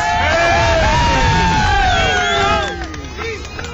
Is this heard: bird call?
no